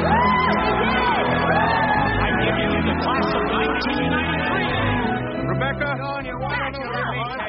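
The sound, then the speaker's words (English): A large group of graduates, the Lincoln Tigers graduating class, roars and cheers together, a loud sustained wall of whoops, shouts and yells that stays dense throughout with excited voices overlapping. “Hear us roar!”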